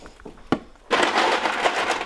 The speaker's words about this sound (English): Okay. And then we're going to add ice.